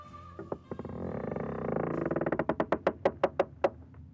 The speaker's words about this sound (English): Let's see what will happen when I open the door.